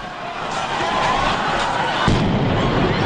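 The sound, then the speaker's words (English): A loud explosion, the second bomb at the Boston Marathon finish line, booms out partway through, its deep rumble rising over a noisy outdoor crowd with voices and chaotic background commotion. “The first explosion there, and seconds later”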